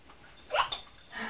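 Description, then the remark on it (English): A short burst of bubbling as air is blown into water, rising and fading within about a second, with a softer gurgle following and faint background noise. “Very relaxing blow bubbles, isn't it?”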